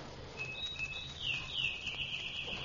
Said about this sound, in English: There's a silly character. What's he doing here? Who? That bird. Robin or sparrow or whatever he is. What's a bird doing here in November?